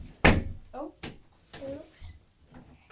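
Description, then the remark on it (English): A door slams shut with a sharp, loud thud, followed by a couple of lighter knocks while a young child's voice babbles faintly in the background. “Who shut the door? You did. You shut the door.”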